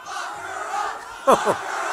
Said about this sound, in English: Lock her up, the crowd was shouting. It's become a frequent chant at Trump rallies directed toward Clinton.